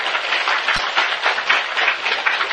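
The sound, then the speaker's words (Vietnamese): A crowd claps steadily to honor the attendees' spirit of learning, a dense wash of many hands applauding together at moderate loudness throughout, with no voices standing out above it. “thì chúng ta cho một tràng pháo tay để hoan nghênh tinh thần học hỏi của các vị.”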